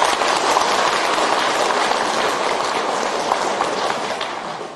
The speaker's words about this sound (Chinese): 所以台长在这里提议，为我们今天带很多亲戚朋友来的慈悲的听众朋友们，大家给他鼓鼓掌，谢谢他们。